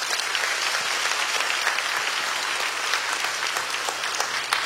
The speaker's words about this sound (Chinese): 你的圣灵好奇妙，你的作为好奇妙。我们可以给圣灵一个掌声吗？